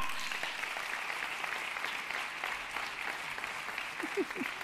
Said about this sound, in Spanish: Por favor, Natural Classic, un aplauso enorme para Mario Luna.